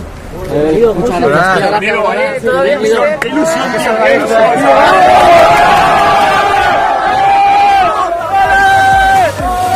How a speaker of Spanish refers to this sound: Esto es de ahora. Acaba de llegar Bordalás y la gente está entregada con el técnico que les hizo soñar con la Liga de Campeones.